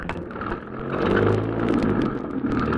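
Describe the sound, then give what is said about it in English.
A taxi cab's engine rumbles, then swells louder after a moment as the cab accelerates and keeps pulling away steadily, following another car in London. No voices are heard. “Follow that car, cabbie.”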